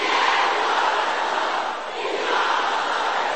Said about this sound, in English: Become unstoppable. Aha. Can I hear the sister shouting this?